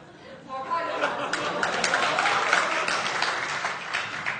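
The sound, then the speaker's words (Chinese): An audience breaks into applause, a dense wash of many hands clapping that swells after the first half second and holds steady and fairly loud to the end, mixed with faint crowd murmur. “冲这掌声，您得来这崔莺莺。”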